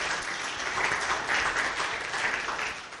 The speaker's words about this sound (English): Let's give them a clap. One-year anniversary. Really cool.